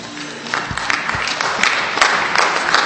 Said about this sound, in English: Amen. It sounded like a feeble clap. I pray that that would have an exuberant response, for that is both the blessing and the call on every Christian life.